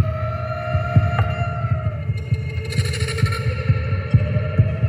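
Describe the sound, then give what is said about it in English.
An eerie drone from the Apprehension Engine, a custom-made horror instrument played by composer Mark Corvin at a Friday the 13th performance in a cemetery in Brooklyn: sustained, wavering metallic tones over a deep, irregular heartbeat-like pulse, with a brief hissing shimmer rising in the middle. No voices. “Mark Corvin plays a custom-made instrument he calls the Apprehension Engine.”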